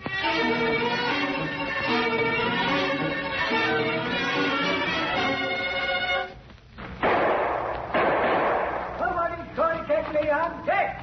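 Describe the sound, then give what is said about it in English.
A gunshot in a firefight at a cave, fired by an old man: one loud, sharp crack that breaks in with a rough, hissing decay lasting about a second, set between stretches of steady tonal sound and voices. “Hey, that one came close. Annie, keep down behind these rocks. That old guy shoots straight.”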